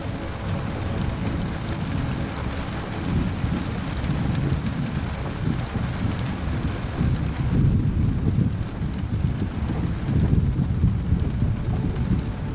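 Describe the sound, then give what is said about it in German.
Steady, dense rain pours down continuously on the leaves of trees, with a deep rumbling undertone like thunder and gusting wind. No voices are heard. “Bäume mit Blättern, die im Regen wie flüssiges Silber glänzen, säumen die Strecke.”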